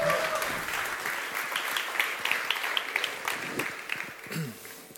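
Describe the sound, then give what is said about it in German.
An audience applauds to welcome a speaker at a talk, many hands clapping in a dense, continuous wash that holds for several seconds at moderate loudness, with a faint murmur of voices underneath. “Einen ganz großen herzlichen Applaus”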